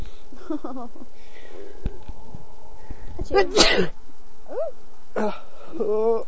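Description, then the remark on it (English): A sharp sneeze bursts out around the middle, surrounded by brief vocal sounds and a faint steady background hum. “Achoo. Bless you.”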